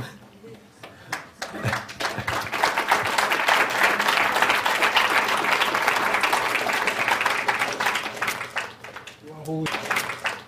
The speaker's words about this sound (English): Holy applause.